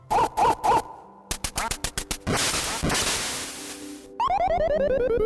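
Retro 8-bit video game effects from Duck Hunt, featuring its smug dog: three quick quacking blips, a rapid run of clicks, a burst of static-like noise, then a bright stepping chiptune jingle. No one speaks.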